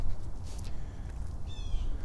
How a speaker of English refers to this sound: I can hear that bird just yap, yap, yapping. What is he so uptight about?